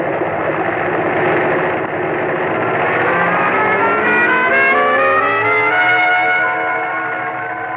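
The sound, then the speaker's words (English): A small plane engine roars at full throttle before the brakes are released for take-off across a clearing, loud and steady, its droning pitch climbing smoothly through the second half as it revs higher. No voices are heard. “Your best bet is to rev her up, full throttle, and then release the brakes.”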